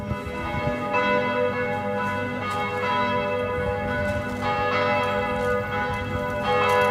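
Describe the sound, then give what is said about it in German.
Church bells in Nuremberg, Germany, peal continuously on a Sunday, several overlapping tones ringing out in a steady, rich wash of sound, fairly loud and resonant with no speech. “Die allgegenwärtigen Glocken dürfen nicht darüber hinwegtäuschen, dass Nürnberg und große Teile Frankens evangelisch sind.”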